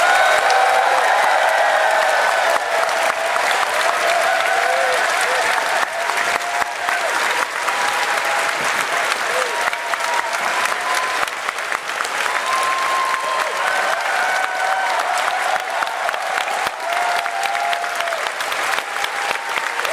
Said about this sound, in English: Can we please get a huge round of applause for everyone here and everyone still on the site?